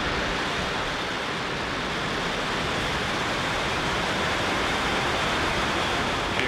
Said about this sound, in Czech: 27. května přišel start rakety Falcon 9 z rampy SLC 40 na Cape Canaveral Space Force Station. And lift off. Go Falcon.